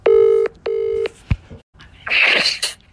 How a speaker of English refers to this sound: Right, so first, let's phone a random number. A little prank call, if you will.